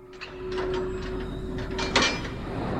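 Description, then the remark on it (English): A door opens with a drawn-out creak and a steady tonal squeal, accompanied by a series of soft mechanical clicks and rattles, moderately loud, with no voices. “The boy in the attic hears the door.”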